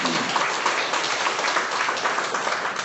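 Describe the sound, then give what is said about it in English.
A church audience applauds steadily as a hand clap of praise to God, many hands clapping together in a dense, continuous wash of sound that stays loud and even throughout, with no talking over it. “Well, come on and give him a hand clap of praise.”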